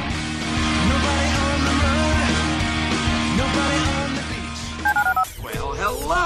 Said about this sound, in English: Dial the phone.